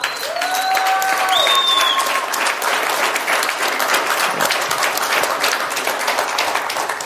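Steady, dense audience applause with many hands clapping at a constant loud level throughout; a few faint whistles or high tones ring out briefly at the start.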